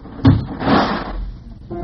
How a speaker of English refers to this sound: Mary, next time don't slam the door so hard it turns on the radio.